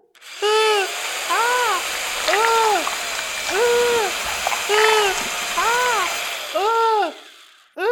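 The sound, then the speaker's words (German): An electric drill whines in about eight short, loud bursts, its motor pitch swooping up and then back down with each squeeze of the trigger, with no talking over it. The drill is being used to bore a hole in a person's hand. “Jetzt nehmen Sie die Bohrmaschine und bohren ihr damit ein Loch in die Hand.”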